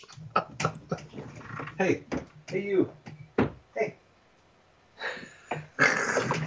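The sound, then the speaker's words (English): A dog whimpers and makes restless little noises, broken up by short bursts of activity and a brief spoken greeting, with a couple of louder rustling or scraping sounds near the end. “Okay, dog, you have to stop. You're freaking me out.”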